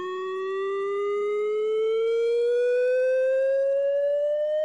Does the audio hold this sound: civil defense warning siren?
yes